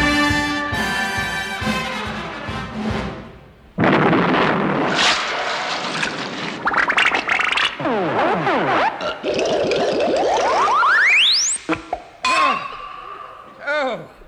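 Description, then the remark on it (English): A sudden, huge explosion blasts in after a tonal opening and roars on for several seconds, loud and chaotic, mixed with whistling sweeps and a rising whine before it breaks off abruptly. “Oh, that was the biggest explosion of the series.”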